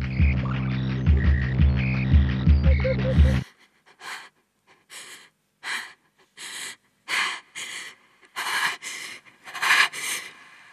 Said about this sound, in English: Oh no. God, to breathe. I am bloody breathing. Okay, come on. Positive thinking. It's only one night. Shit. Oh, my heart's pounding. Okay, slow. In and out.